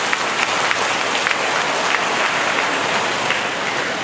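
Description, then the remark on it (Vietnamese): A crowd breaks into sustained applause, many hands clapping in a dense, steady wash that stays loud and even throughout, with no voices standing out. “À đó, cho tràng pháo tay đi.”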